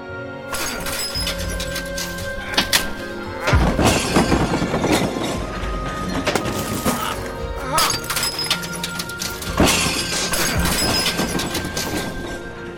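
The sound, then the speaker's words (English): Repeated loud smashing and shattering as every item of a museum collection is struck with a hammer, glass and hard pieces breaking and clattering in bursts over continuous crashing noise, with no talking. “You take this hammer and you smash every single item in your museum.”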